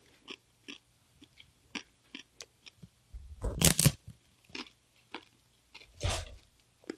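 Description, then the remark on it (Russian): Crunchy matzah being bitten and chewed: a string of short, dry crackles in an uneven rhythm, with two louder, longer crunching bursts breaking through. No one speaks. “Не только поставим, я даже могу укусить чуть-чуть. Видите, маца.”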